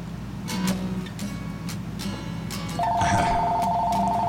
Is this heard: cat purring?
no